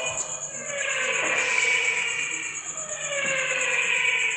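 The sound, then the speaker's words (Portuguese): Formula 1 cars scream past during a Formula 1 race at Interlagos, with a loud, continuous high-pitched engine whine, the layered tones sliding up and down in pitch as cars come through one after another. “Agora eu não posso falar que eu tô aqui na Interlagos vendo a corrida de Fórmula 1.”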